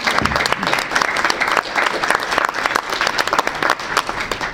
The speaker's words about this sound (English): So even though they're not here, I think that deserves a round of applause from that one.